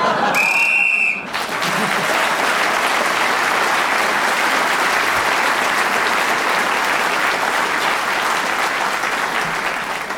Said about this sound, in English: So at the end of that round, …, speaking as the whistle went, gained an extra point.